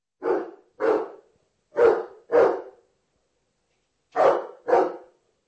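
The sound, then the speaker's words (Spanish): A dog, Cerberus, the dog of Buchlov castle in south-east Moravia, barks in three quick pairs, each double bark separated by a short pause, loud with no other sounds around it. “Cerberus era un perro, mensajero de amor.”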